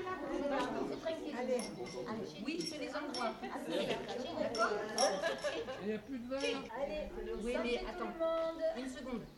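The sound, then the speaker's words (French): A few light glass clinks ring out in a toast on a village square, half-buried under a crowd of lively overlapping voices chatting and laughing. “Vous avez trinqué?”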